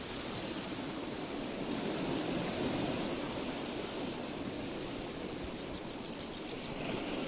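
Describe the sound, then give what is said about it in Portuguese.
Steady, dense rainfall hisses evenly throughout, a broad continuous wash of sound with a soft low rumble underneath and no distinct thunderclaps. No one speaks. “Porém, em alguns momentos, aumentaremos os sons da chuva e trovões para ajudar em algumas partes da técnica.”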